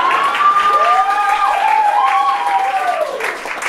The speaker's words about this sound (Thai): ขอบคุณขอเสียงปรบมือให้กับคุณ